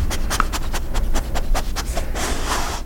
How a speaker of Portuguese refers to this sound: Logo chegou também o cachorro a farejar.